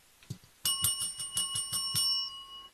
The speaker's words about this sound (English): And then they ring a little, tiny little bell. It goes like this.